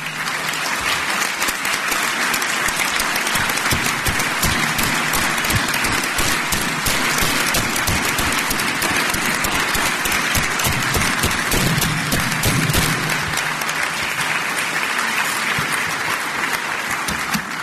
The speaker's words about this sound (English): So anybody that works in the criminal justice system, investigators, prosecutors, support staff, I'd ask you to stand up and allow us to thank you for your service with our applause. So please stand up.